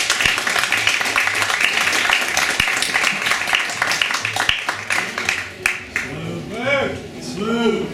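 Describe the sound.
An audience at a live show gives a dense, steady round of applause for a performer for several seconds. The clapping thins out while voices and cheers rise over it toward the end.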